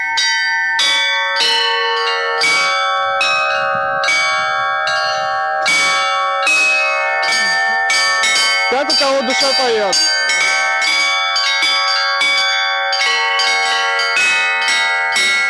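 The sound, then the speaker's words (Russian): Church bells rung by hand in a busy, rhythmic peal as a visitor tries ringing under a master bell-ringer's guidance, squeezing the ropes of the small chiming bells with the right hand; repeated strikes every half second or so ring out loud, tones overlapping; a voice speaks briefly partway through. “Теперь любой желающий сможет ударить в эти колокола только на Пасху.”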